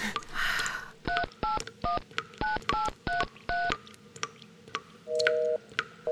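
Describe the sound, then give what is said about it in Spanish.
A rapid series of mobile phone keypad tones, about seven short dual-tone beeps in quick succession, followed by a longer steady two-note tone, clear with no talking; the phone has no signal. “No anda, no tiene señal, sí, no podría ser de otra forma.”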